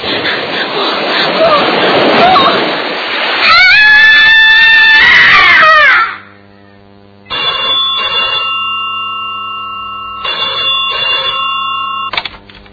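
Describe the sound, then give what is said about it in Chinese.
Loud, rushing sea waves crash against rocks at night at Tiger Beach Garden in a coastal city in northeast China, summer 1963, for a few seconds, then give way to a shrill wailing tone and a telephone ringing in two spaced bursts. “在海浪拍击岩石的呼啸声中，隐约传来一丝更加可怕的声音。”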